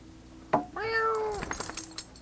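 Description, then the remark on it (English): A single drawn-out, fairly loud meow is made to tease a dog, preceded by a short sharp sound and followed by the faint jingling of the dog's license tags. “That's … making the dog frustrated. Go get Shag. Get the cat”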